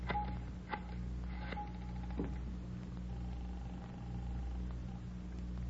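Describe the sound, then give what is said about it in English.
A telephone being dialed to place a person-to-person call to Fountain Green, Utah: a few sharp clicks and short tones, then a longer steady beep, all over a constant low hum with no one speaking. “Can I use your phone”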